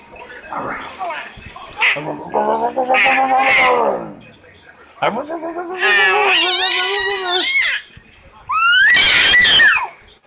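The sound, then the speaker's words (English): A person makes a series of high, warbling squeals imitating a dolphin, with wavering pitch, in loud bursts separated by short pauses, ending in a sharp piercing shriek. “Boy, I think you talk to dolphins. You're a dolphin whisperer.”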